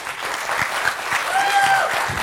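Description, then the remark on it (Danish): A studio audience claps steadily to vote for the view that people should not become human cyborgs, a dense patter of many hands at a moderate, even level, with a faint whistle-like tone and some murmuring mixed in. “Ja, men det kommer jo så an på, hvor mange der klapper, hvis vi spørger om det modsatte.”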